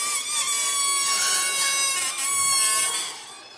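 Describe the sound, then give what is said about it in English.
A loud, shrill squeal of air escaping from a stretched balloon neck as people are asked to make a noise with their balloons, holding a high wavering pitch for about three seconds before tapering off, with no talking over it. “Now everybody make a noise with your balloon.”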